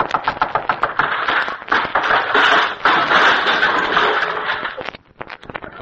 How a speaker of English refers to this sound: Well, I'll knock on the door.